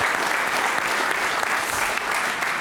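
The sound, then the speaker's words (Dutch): Sustained audience applause, a dense, steady wash of many hands clapping at an even loudness for a few seconds, with no voices standing out. “Geef me een heel groot applaus.”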